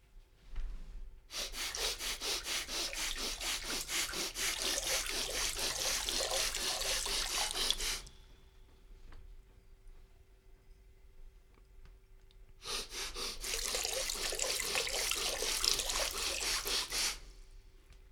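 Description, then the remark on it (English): Two long bursts of water being squeezed out of puffed cheeks with the cheek muscles while air is quickly sniffed in through the nose, in a didgeridoo breathing exercise. It is a sputtering, trickling spray, each burst lasting several seconds with a pause between, with breathing audible and no talking. “If you do this properly, you'll realize once more that these two movements, sniffing air in and squeezing water out, are two separate movements.”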